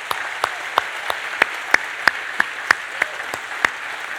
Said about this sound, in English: For those of us that still have red shirts on, if you would just stand for a moment and be recognized, I'd love the church to just give you a round of applause.